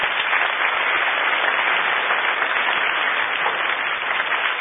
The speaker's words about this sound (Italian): applauso per lui.